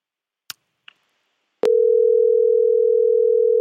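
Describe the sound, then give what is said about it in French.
A couple of faint clicks, like a handset being picked up, followed by a loud, steady telephone dial tone of an outgoing call to a contest's second winner that holds unbroken for about two seconds. No one speaks. “On appelle le deuxième gagnant ou la deuxième gagnante, je ne dis rien, en tout cas.”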